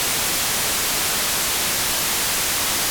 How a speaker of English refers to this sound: Here is white noise with equal power at each frequency, resulting in a doubling of power or 3 dB increase for each successive octave.